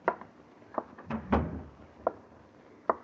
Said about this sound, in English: Close the door, please.